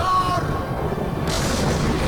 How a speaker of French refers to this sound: Ah, il y a des bruits de tonnerre aussi. Pareil, pas vrai.